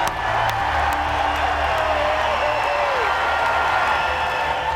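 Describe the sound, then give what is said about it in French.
A large crowd cheers and applauds loudly and without pause, a dense roar of clapping and voices with scattered whoops rising above it, welcoming Donald Trump as a hero at the NRA convention in Louisville on 20 May. “est accueilli en héros par une foule en délire, alors que la NRA vient de le désigner comme son candidat.”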